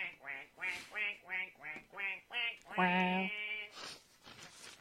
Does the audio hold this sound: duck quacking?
yes